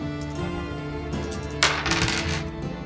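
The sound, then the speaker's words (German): Dice clatter and tumble across a hard surface in a quick burst of sharp clicks, rolled for a haggling check, over steady background music. No one speaks. “Würfel mal auf Handeln.”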